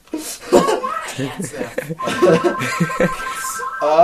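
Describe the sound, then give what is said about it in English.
A mobile phone rings again with a steady electronic tone through the second half, partly buried under people talking and laughing. “Oh, your phone's ringing again.”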